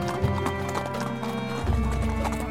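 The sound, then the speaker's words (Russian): Galloping horse hoofbeats pull the gilded chariot of Amphitryon carrying Heracles and his nephew to the spring of Amymone, a quick steady clip-clop that runs the whole time over a sustained tonal backdrop, with a heavier low rumble joining in partway through. “И запрыгнув в золоченную колесницу Амфитриона, они помчались к источнику Амимоны.”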